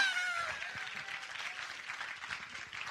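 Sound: audience clapping hands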